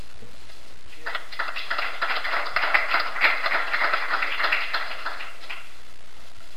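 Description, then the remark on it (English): An audience at a panel discussion breaks into a burst of applause, many hands clapping in a dense, steady patter for about four seconds before stopping abruptly. No one speaks over it. “And I'm glad you applauded, because I was just sitting there thinking, what an excellent panel.”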